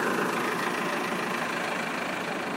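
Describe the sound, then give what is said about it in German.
A heavy low-loader truck engine rumbles steadily and loudly as low-loaders come around a bend in Dresden carrying three buses, a continuous broad drone with no talking and no pauses over the whole stretch. “Da kommen Tieflader um die Kurve mit drei Bussen.”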